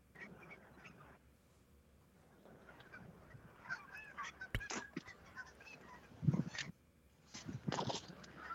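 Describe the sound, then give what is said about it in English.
A big flock of geese honks repeatedly while flying right overhead during a goose hunt with a bow, over a noisy background, the calls growing louder and denser toward the end, with a sharp brief crack partway through. “What are you putting money on here? Goose or forest?”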